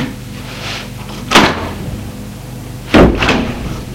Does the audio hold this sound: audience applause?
no